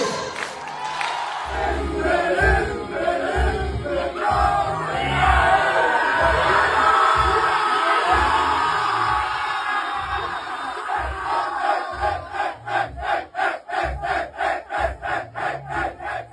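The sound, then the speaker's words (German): A large stadium crowd of Saarbrücken fans cheers and sings a stadium song together, a dense roar of many voices, ending in a rhythmic chant with regular pulses like clapping or stomping. “Da hören und sehen wir großen Jubel der Saarbrücker mit dem wunderschönen Lied Himmel, Himmel, blaue Augen”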